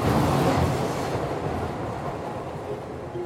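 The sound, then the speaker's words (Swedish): A subway train heading out to Kärrtorp rumbles steadily along the tracks, a dense low roar with a faint rhythmic clatter, loud throughout, gradually easing slightly in intensity. “bestämmer sig för att trots allt ta tunnelbanan ut till Kärrtorp.”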